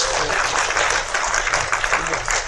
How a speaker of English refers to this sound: Please give our contestants a round of applause.